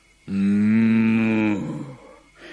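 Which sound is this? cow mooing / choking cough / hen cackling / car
cow mooing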